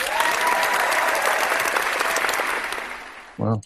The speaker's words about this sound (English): X-Men TV series gets official pilot order from Fox. I'm not sure how to react to this. I'm going to give it applause.